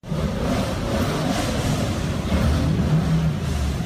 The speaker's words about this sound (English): Main Street in Christiansburg, Virginia was shut down so 70 rally cars could line up and take off one by one on the first day of the event.